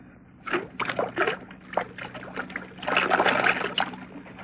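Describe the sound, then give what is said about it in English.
Whiskey glugs and splashes out of a half-full bottle in uneven gurgling bursts, fairly loud, building into a steadier pour near the end with no one speaking. “Ah, there's the whiskey, still half full. Pour most of it out, so that it will look as though we had even more to drink.”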